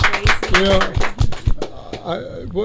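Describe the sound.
An audience applauds with a dense, uneven patter of claps mixed with overlapping voices and cheers, then the clapping thins out as voices carry on.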